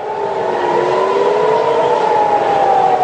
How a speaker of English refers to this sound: Air raid sirens here sounding in Jerusalem earlier this week.